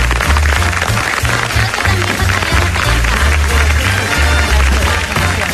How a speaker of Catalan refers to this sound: Un aplaudiment per totes vosaltres.